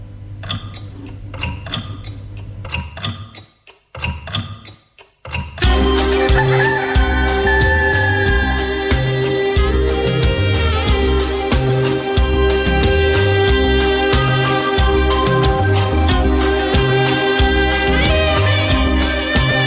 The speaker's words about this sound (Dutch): Maar luister, nu komt de klok er zo aan. Als je nog even wacht, dan hoor je hem.